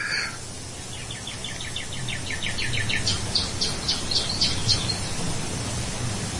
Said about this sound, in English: I'm assuming the bird chirping was you guys.